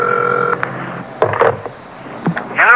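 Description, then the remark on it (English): A telephone rings at Big John's house with one short, steady electronic buzz, then a few clicks, knocks and rustles follow as if the receiver is being handled. No one speaks. “Telephone's ringing there now.”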